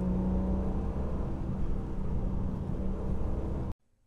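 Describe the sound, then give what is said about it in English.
An Alfa Romeo SZ, owned by SZ expert Adrian Jardine of Specialist Alfa Aid in Maidenhead, drives on bends, its engine a loud, steady low rumble with a faint hum for nearly four seconds before the sound cuts off abruptly. No one speaks. “The car I'm driving belongs to one of the world's leading SZ experts, Adrian Jardine of Specialist Alfa Aid, based in Maidenhead.”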